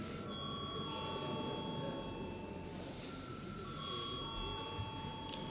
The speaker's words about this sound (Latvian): Lūdzu zvanu.